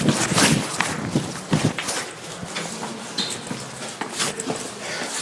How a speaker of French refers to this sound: Et là, je monte les marches.